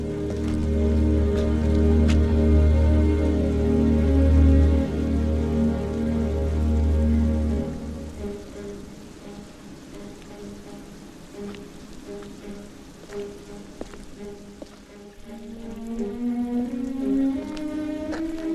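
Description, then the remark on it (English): Rain drums steadily on a large metal drum, a dense patter over deep, ringing metallic hums that thin out partway through before a rising resonant tone swells near the end. “You are listening to the noise of rain beating against a large metal drum.”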